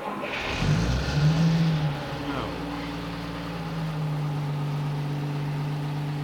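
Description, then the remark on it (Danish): A heavy 1953 Opel Blitz truck engine turns over and catches, roaring briefly before settling into a steady, rumbling idle. “Den startede jo lige med det samme.”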